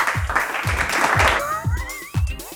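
A short burst of crowd applause over a steady thumping beat; the clapping thins after about a second as a rising, whistly tone takes over.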